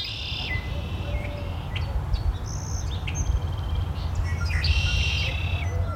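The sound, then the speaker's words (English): A red-winged blackbird repeats its buzzy, trilling song in short high bursts, with scattered chirps in between, all over a steady low rumble of outdoor background noise. “Today's bird, the red-winged blackbird.”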